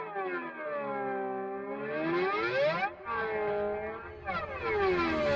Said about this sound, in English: Marble spaceship. This next hack is supposed to make your guitar sound like a spaceship or something like that. All you need to do is get a marble and let it roll down the string.